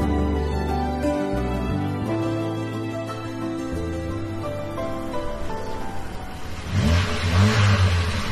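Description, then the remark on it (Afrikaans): A car engine revs steadily, its pitch rising and falling in sustained surges, then a louder, rougher burst of revving near the end. “Daar's niks fout met die enjin nie”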